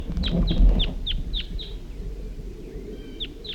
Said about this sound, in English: At least one of the birds is calling and coming back. Stop. They're recording the birds here, and it's in that basswood or whatever right next to the net.